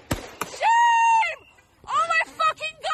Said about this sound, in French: Elle semble manœuvrer pour partir, elle frôle les policiers et c'est à ce moment-là que l'un d'eux lui tire dessus sous les cris des passants.